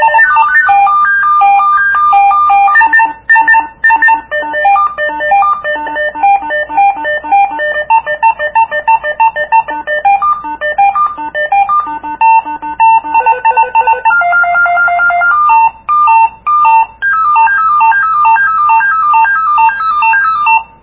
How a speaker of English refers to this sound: I'm going to press the menu button once. Press it again. Press it again. Arrow. Yep, here are the different ringtones.